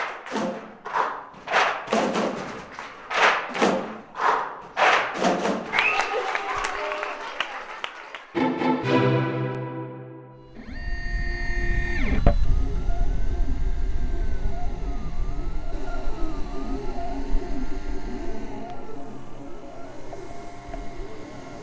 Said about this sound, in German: Na, habt ihr erkannt, was das für ein Geräusch war? Das war ein 3D-Drucker